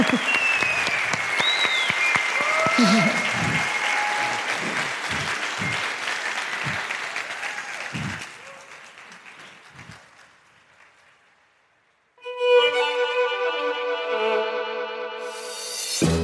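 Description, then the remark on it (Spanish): A crowd claps loudly and steadily for about eight seconds, with faint whistles and voices mixed in. The clapping then fades to near silence before sustained, tonal music starts. “Un aplauso.”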